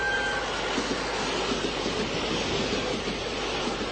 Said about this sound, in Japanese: 2番線特急プリンゴ白馬行き通過です。発車の内側までお下がりください。